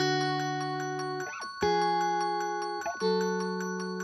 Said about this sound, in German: Das war ursprünglich auf jeden Fall eine Linie, die auf dem Glockenspiel hängt. Stimmt. Auch noch in der zweiten Strophe ist sie auch noch auf dem Glockenspiel.